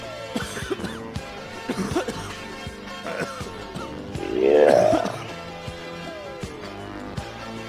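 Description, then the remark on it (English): Several coughs and a throat-clearing sound from someone smoking weed in the background, with a louder, rougher burst of coughing near the middle, over a faint murmur of room noise. “Alright, whoever's smoking in the background, you're coughing a little bit too much.”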